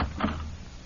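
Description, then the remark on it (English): A door is opened with a single short, muffled clunk and rustle, followed by a low hum; no one speaks. “be careful opening the door.”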